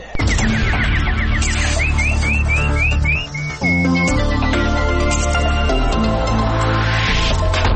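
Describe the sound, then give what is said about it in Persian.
A nightingale's song of quick, repeated rising chirps and warbles sounds loudly up front, layered over a dense, steady musical backing that fills the whole passage without pause. “اینک مشروع خبرها با همکاور چهچه زنم بلبل.”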